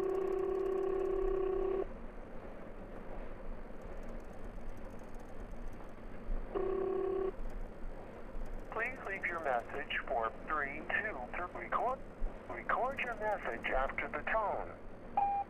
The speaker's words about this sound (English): My phone froze as my phone rang.